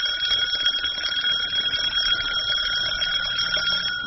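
A burglar alarm bell rings loudly and continuously, a harsh metallic clatter that holds steady without a break from start to finish, with no voices.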